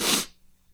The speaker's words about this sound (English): Oh, hang on, let me take a sniff.